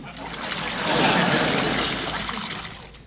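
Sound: water trickling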